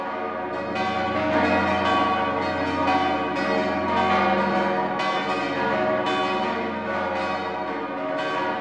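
monastery church bells ringing

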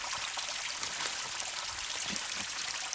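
flowing river water

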